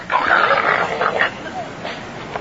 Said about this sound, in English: So she takes the swing away, and the dog goes and starts wasting a little more energy, running around. And growling.